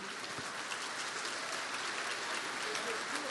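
An audience applauds for a testimony in a dense, steady wash of many hands clapping, holding a constant, fairly loud level for the whole few seconds with no voices standing out.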